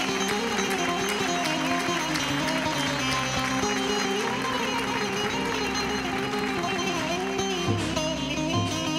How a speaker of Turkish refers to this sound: alkış, alkış, alkış.